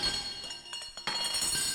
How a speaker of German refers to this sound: Der blecherne Leuchter klirrte von Stein zu Stein.